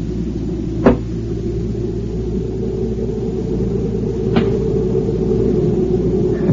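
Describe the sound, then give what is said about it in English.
Two sharp, cracking impacts of a rock thrown against a cabin ring out a few seconds apart over a steady low rumble, each echoing from the canyon and sounding sudden, like a rifle shot. “I found out about the rifle shot, just an echo from the canyon if you throw a rock against the cabin.”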